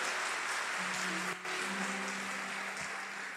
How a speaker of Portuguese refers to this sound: Amém, aplauda o Senhor, glória a Deus. Glória a Deus.